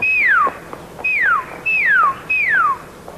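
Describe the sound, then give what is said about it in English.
A person whistles four times in a steady rhythm, each note a clear, loud, falling glide in imitation of a quail's call, with brief pauses between and no talking. “And remember, if any of us Indian scouts spots a wagon train, we whistle like a quail, say, like this.”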